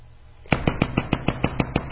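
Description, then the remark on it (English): After a brief quiet moment, a person in a hurry knocks on a door in a rapid, steady burst of about nine loud, sharp knocks, urgent and evenly paced, with no voices. “Because the knocks became more fast and furious.”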